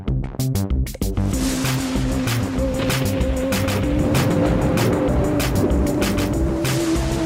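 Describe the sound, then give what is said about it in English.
A boat churns steadily across the sea, its loud, continuous engine-like roar and droning hum filling the scene after a few sharp bursts at the start. No one speaks. “they dived in a boat and sailed across the sea. From battling the ocean”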